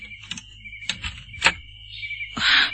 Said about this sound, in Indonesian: Pintu ini ternyata tidak dikunci. Aku akan masuk saja.